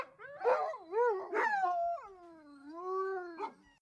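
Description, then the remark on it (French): A dog gives a string of loud, drawn-out yelping howls with rising and falling pitch, ending in a short sharp yip, with no voices present. “Les aboiements des chiens”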